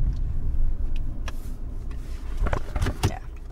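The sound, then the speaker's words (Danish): A car climbing into hilly terrain between the sea and the mountains after passing under a motorway, its engine a steady low rumble heard from inside the cabin, with a few sharp clunks and rattles from the vehicle toward the end. “Vi krydser under motorvejen og kører op i det bakkede terræn, der ligger mellem havet og bjergene.”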